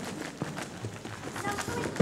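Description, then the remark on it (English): Paper rustles and crinkles inside a prayer bag at a church service, a brief run of irregular, scratchy bursts at moderate loudness, with a sharper crackle at the very end. “It sounds like plastic. Do you think it's... What do you think it sounds like? What do you think it sounds like? Paper.”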